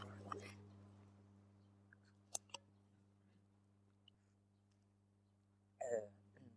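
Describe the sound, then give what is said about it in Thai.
Mouth sounds of someone sipping tea and swallowing: a short slurp at the start, two sharp gulping clicks midway, then a louder sip near the end over a low steady hum. “ทีนี้เวลามันก็ผ่านไปในระหว่างฉันจิบชานี่แหละ”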